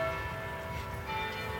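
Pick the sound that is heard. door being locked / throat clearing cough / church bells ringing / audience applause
church bells ringing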